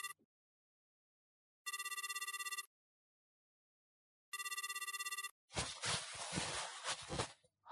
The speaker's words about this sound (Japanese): やっぱ本部からか。悪い、ちょっと仕事の電話。